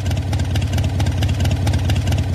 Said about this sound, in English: I've just taught you how to do a mean impression of a Harley-Davidson motorcycle with a V-twin engine at idle. Harley-Davidson of Milwaukee has now abandoned its six-year effort to defend its trademark protection for that sound.